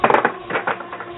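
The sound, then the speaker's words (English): A cat scratching and knocking things around on a desk: a quick cluster of irregular clattering and scraping bursts, with no one speaking. “And the sound you hear is my cat destroying my desk.”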